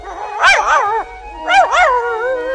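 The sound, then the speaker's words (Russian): A small performing dog, told to dance, gives two drawn-out, yipping barks with a whiny, wavering pitch, fairly loud, with a short pause between them. “Собачка! Собачка! Танцуй, собачка!”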